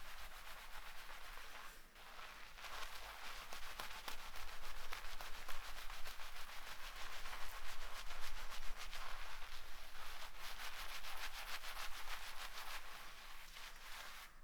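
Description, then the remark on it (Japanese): Steady scrubbing and rubbing of fingertips through lathered, shampooed hair, moving gently from the side hairline toward the top of the head without using the nails, a continuous soft crackling friction with slight surges, alone without any talking. “横の生え際から頭のてっぺんに向かって、爪を立てないように優しくシャカシャカシャカシャカさっきより触り心地が滑らかになってきたね。”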